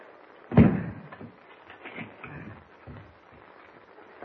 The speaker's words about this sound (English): Meanwhile, the two men who were frightened off by Superman reach their shack in the woods. Bolt the door, Chuck.